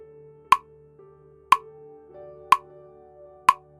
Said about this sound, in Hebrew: בעוד רגע אתם תשמעו צליל נקישה שיסמן את קצב הכנסת האוויר. מיד אחריו יופיע צליל נקישה שיסמן את קצב ההוצאה.